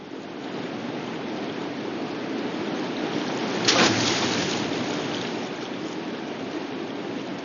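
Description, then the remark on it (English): Steady rushing of a flowing river fills the scene, broken midway by a single heavy splash as a man rolls a corpse, weighted down with a large rock and rope, into the water. No voices. “With a nauseous expression, he stands up and rolls the corpse into the water.”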